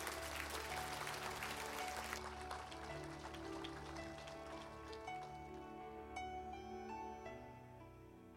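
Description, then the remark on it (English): A church audience bursts into loud, dense clapping to give God thanks on Easter morning. The clapping thins out after a couple of seconds, leaving steady sustained musical tones that carry on beneath scattered claps. “If you've been forgiven, would you put your hands together and give God thanks this Easter morning?”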